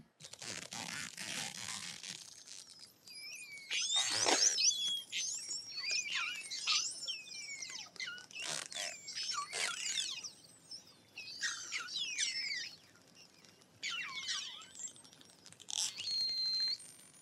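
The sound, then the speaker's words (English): Short-finned pilot whale vocalizations: a busy stream of high squeaky whistles, chirps and raspy buzzing click bursts, coming in irregular clusters with brief pauses, moderately loud, no talking. “Okay, raise your hand for the short-finned pilot whale.”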